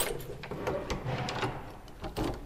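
A red door at the far end of a corridor in a birth centre is opened: a series of sharp mechanical clicks and clunks from the latch and frame, with a faint rattling in between and no voices.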